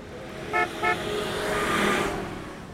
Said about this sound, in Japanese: 黒塗りの車が横を通り過ぎると、少し先にあるラブホテルの前で止まる。